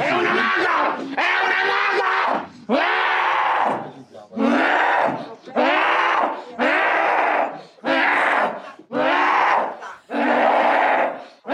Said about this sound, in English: So then she fucking growls like an otherworldly banshee.